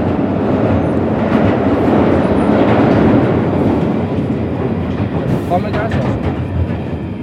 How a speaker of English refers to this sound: This train terminates at High Barnet.